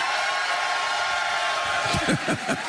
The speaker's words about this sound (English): You can hear the crowd. Crowd, can you guys make some noise?